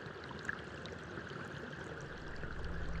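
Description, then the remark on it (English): Rainwater rushes in a steady, continuous stream under a bridge at the lowest point of a neighborhood, a broad churning wash with a slight echo, growing a bit fuller toward the end. “It is the lowest point of the barrio, the neighborhood. Every water from the rain goes down to that bridge.”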